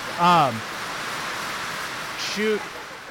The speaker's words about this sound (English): It's loud. We got a little rained out here